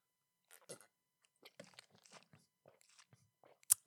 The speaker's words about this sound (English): That was a ginormous gulp there. I love you some orange juice, man.